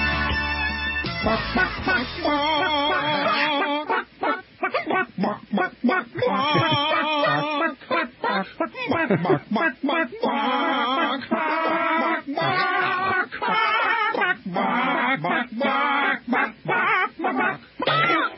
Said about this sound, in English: I told you we'd have a chicken story. I just didn't know it would be a chicken choir.